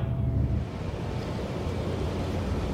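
wind and waves

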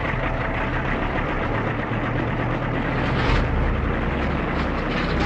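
aircraft engine

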